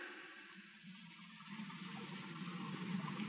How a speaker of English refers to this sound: Water. The mountain's busted open down there. How do you like it? Isn't that great? Listen to it. We're due to die of thirst, and there's tons and tons of water. A flood of it, just when we need it, just out of reach.